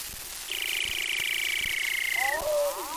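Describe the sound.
A voice imitates a male wampus call: a long, steady, buzzy high-pitched trill held for nearly two seconds, sliding into a shorter warbling lower whistle at the end.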